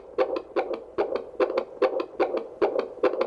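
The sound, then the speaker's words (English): A fast, steady fetal heartbeat through a doppler monitor on the mother's jelly-covered belly, around 141 to 143 beats per minute, rapid rhythmic whooshing pulses about two to three per second, loud, with no talking over it. “we're going to listen to the baby's heartbeat this morning”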